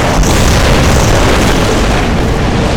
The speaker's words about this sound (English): I feel a flare of magic in the train car when the paper hits the floor. The slip flares like flash paper, and a sudden inferno of green fire engulfs the car. The flames explode through the enclosed space, rushing past everyone and everything